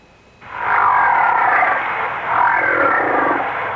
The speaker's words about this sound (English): If you agreed with these guesses, you've been fooled, because each sound was made by a whale. That's right, a great big blubbery old whale just buzzing and clicking and grunting away